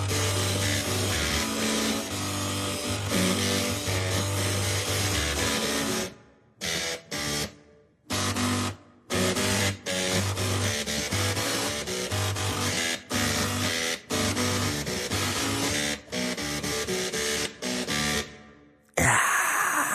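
A pop tune played entirely on printers and floppy drives: buzzing, grinding mechanical tones step through a melody and pulsing beat, loud and continuous with a few abrupt stops, no voices.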